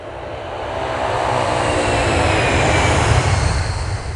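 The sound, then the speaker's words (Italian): A steady, loud roar of an airplane engine fills the scene, a broad rumbling drone that swells slightly and holds without any voices. “Infilai la guida nello zaino e salii sull'aereo.”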